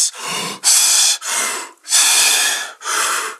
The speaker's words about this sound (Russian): То есть мы вначале выдыхаем там половину воздуха, делаем полный вдох, потом выдыхаем чуть больше еще, чем половину, делаем полный вдох. Выглядит это обычно так.